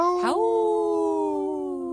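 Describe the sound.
A person imitates a wolf howl: one long, loud vocal note that swoops upward at the start, then holds a steady pitch for almost two seconds with no other talk.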